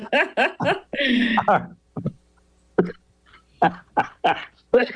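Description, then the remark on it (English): A run of sharp, harsh coughs arrives in uneven bursts, a quick cluster at first, then a longer rasping one, followed by several single hacks spaced out with short pauses between them. “And while you cough, I'm going to mention one other film”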